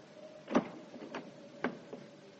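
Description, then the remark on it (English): A door is opened with a series of clunks: a heavy thud, then two sharper knocks and a faint final click, all over a low, steady hum with no voices. “Open that door, Canvile.”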